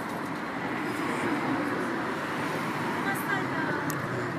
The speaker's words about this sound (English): What you can hear is the sound of cars driving past.